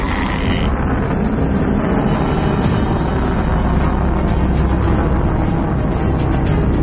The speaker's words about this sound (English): Whoa, that space shuttle launch is so cool.